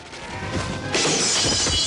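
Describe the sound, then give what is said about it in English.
A glass window shatters loudly as a person jumps through it, a building crunch that bursts into a bright spray of breaking glass, with shards continuing to clatter and tinkle for a second afterward. “Zui jumps through a window and takes cover behind barrels”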